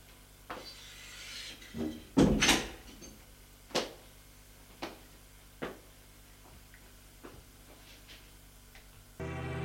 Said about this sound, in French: Et elle leur ouvre la porte.